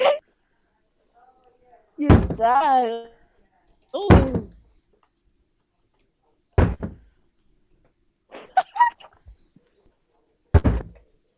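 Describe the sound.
Loud, heavy bangs on a door, four or five hard thuds spaced a couple of seconds apart, with short bursts of a voice yelling between some of the hits.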